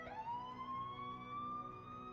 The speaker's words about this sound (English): Police sirens and patrol car lights can be seen and heard off in the distance.